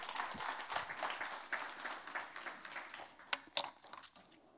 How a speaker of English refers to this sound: Go ahead and give him one more round of applause.